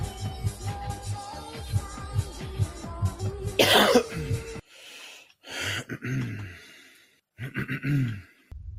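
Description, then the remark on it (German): Someone clears their throat in several harsh, gravelly bursts, following a burst of noise at the end of a stretch of low, rhythmic background sound. “Räusper.”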